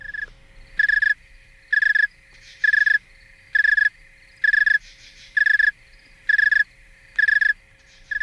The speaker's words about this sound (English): I think we also have a clip of a cricket at a colder temperature.